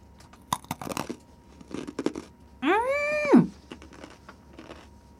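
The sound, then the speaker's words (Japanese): Sharp, dry crunches as a long, jet-black nori snack made with Ariake Sea nori is snapped, bitten and chewed, a quick cluster of crackles, then a drawn-out hummed 'mmm' from a voice, followed by a few softer chewing crunches. “じゃちょっとポキッと折りまして、じゃあいただきます。”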